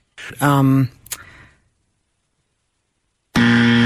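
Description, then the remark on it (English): A loud, harsh quiz game time-up buzzer sounds in a short blast, followed by a click and a few seconds of silence, then blares again, steady. “Just after the buzzer.”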